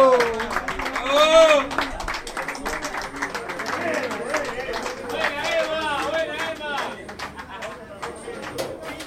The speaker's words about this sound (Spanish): ¡A un aplauso para el asador, hermano!